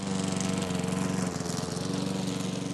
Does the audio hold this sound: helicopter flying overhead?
no